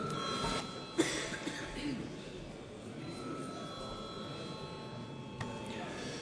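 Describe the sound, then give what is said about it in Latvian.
A steady electronic bell rings on without a break for several seconds in a parliament chamber before deputies vote on a bill. It is a bright sustained tone with faint murmuring and rustling underneath. “Lūdzu zvanu.”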